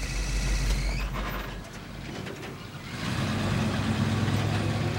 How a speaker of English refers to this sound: She backs the truck into reverse and heads toward the entrance of the park.